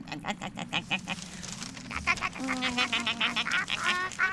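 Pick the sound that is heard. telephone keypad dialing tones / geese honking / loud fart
geese honking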